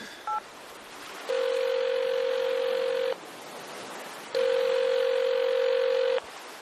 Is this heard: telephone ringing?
yes